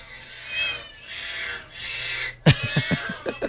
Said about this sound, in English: It's called Cat Piano. I've showed this before. Different kinds of cats of all different kinds and species. I'll put the angelic meow.